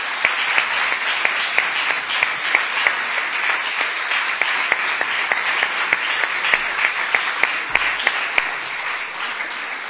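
Sustained applause from a large assembly in a parliament fills the whole stretch, a dense wash of many hands clapping steadily at a fairly loud level, with no voices rising above it.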